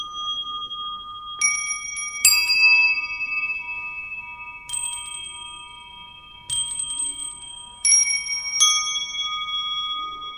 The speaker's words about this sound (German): Instrumentenobjekte eingefügt in die vier Raumecken sollen, von Musikern gespielt, die Geräuschkulisse der Stadt wachrufen. Glockenspiel zum Beispiel.